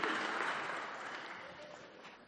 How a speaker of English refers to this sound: Christmas wouldn't be Christmas without a tree. Can we have a round of applause for our volunteers for holding this up? Thank you.